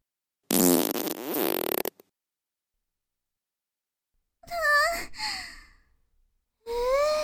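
A loud, close, raspy fart rumbles for well over a second. Silence follows, then breathy, wavering vocal sighs. Nobody speaks.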